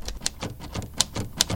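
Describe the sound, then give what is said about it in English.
Mechanical keys of a vintage typewriter at the Cambridge Typewriter Company shop in Arlington clack in a quick, uneven rhythm, each strike a sharp snap with a bright metallic edge, heard alone without any voices. “It is the sound of a typewriter at the Cambridge Typewriter Company in Arlington.”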